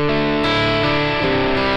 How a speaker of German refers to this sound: Das ist jetzt auch Hall vorm Amp. Ich drehe mal den Mix ein bisschen auf, um es deutlicher zu machen.